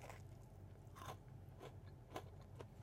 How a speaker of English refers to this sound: I love the crunch that the pretzels give it.